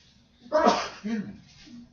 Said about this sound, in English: You can sneeze.